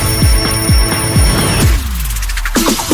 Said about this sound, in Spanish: ¡Actívate! El despertador de Activa FM.